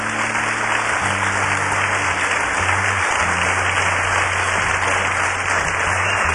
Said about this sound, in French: Voilà, les musiciens se sont installés. On va les applaudir.